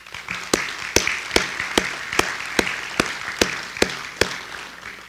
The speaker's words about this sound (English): And before I get started on who's on the board, first off, I just want everybody to give the park board a round of applause.